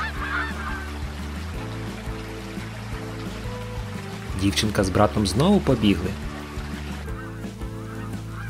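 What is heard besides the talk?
geese honking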